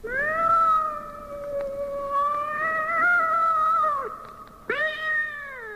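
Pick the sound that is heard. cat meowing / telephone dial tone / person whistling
cat meowing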